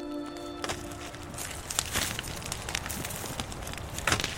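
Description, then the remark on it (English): A prescribed burn in Yosemite crackles with a steady rushing hiss and irregular sharp pops and snaps, a few louder bursts standing out. A brief steady tone sounds at the very start, then fades. “Burns in Yosemite are helping to restore Native people's connection with the land.”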